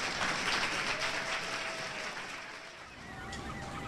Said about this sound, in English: I want to thank Richard Dreyfuss for taking this time and for spending some time of his life in Hartford. How about a big round of applause for this man? Thank you for coming out. Thank you, TheaterWorks.